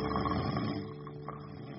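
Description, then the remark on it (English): A big hibernating bear snores loudly: a deep snore that rumbles steadily for nearly two seconds, a single drawn-out breath with a rough, throaty rattle and no talking. “The big bear, who had hibernated months ago, was still sleeping and snoring loudly.”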